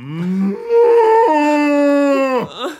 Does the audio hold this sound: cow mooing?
yes